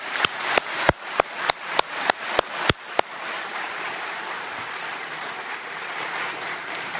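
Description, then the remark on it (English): Audience applause for the panel at an evening event with congressional candidates begins as a few sharp, evenly spaced claps, then swells into a steady, dense wash of clapping that holds at a constant moderate loudness. No one speaks. “I'd like to give them a big round of applause.”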